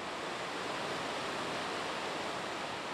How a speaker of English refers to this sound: You're hearing water rushing over the Maple River Dam, which holds back nearly 43 acres of water in Lake Kathleen. The dam is about 18 feet high and in rough shape.